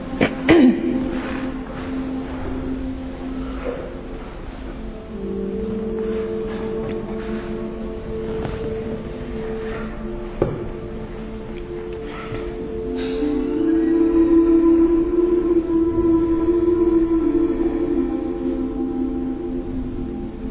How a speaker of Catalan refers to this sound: Molt bé, doncs fem uns momentets de meditació. Posarem una música suau de fons i deixem-nos relaxar, que el cos estigui assegut, però mantenint l'esquena recta.